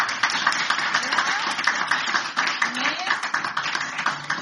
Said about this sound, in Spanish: Un aplauso.